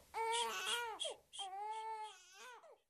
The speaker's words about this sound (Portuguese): Oh, meu bebê, para de chorar.